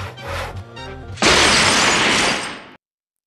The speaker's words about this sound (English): Nice idea with a fallen chandelier.